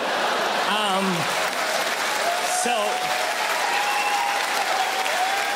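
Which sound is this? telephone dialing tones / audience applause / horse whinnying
audience applause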